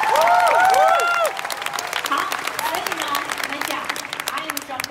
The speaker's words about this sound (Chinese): 各位有真的帮自己晋级，我们听听掌声，来看看我们进到多少层次。